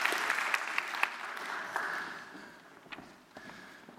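An audience claps steadily, a dense patter of hands with a few sharper individual claps standing out, gradually thinning and fading toward the end.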